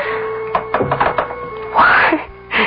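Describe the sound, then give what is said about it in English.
A wooden Windsor rocking chair creaks as it rocks, with a few soft knocks and thumps followed by two longer, rising, squeaky groans of the wood. “Even creaked in the old familiar way.”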